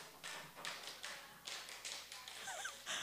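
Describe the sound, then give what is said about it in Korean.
A group of people, one seating section of an audience, clap together on a cue to clap ten times, in loose unison, a run of about eight sharp, roughly evenly spaced claps that blur slightly as the hands don't quite land at the same moment. “박수 10번 시작.”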